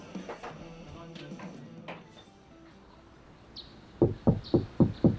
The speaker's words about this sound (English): A few weeks later, there's a knock at the door of the Glendale home shared by John and Sharon Holmes.